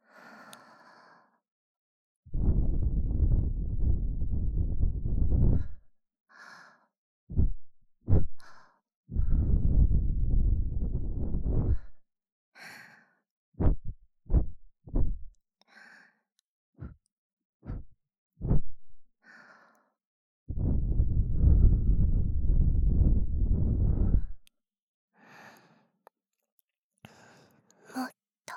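Soft, airy breaths are blown into the second ear: three long, steady whooshing exhalations, with a run of short, quick puffs between them and quiet pauses. There is no talking.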